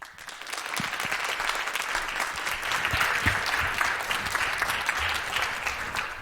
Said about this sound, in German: In diesem Sinne begrüßt mit einem warmen Applaus unsere Speaker hier auf der Bühne,